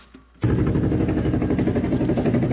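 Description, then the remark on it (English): After a brief moment of quiet, a helicopter engine kicks in abruptly, holding a loud, steady low drone with a fast, rhythmic throbbing pulse running through it. “Here, you can take my helicopter.”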